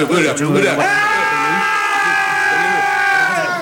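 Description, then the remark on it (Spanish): A donkey brays loudly, a single long, strained, nasal cry that holds steady for several seconds after a rougher start. “Mira, burro.”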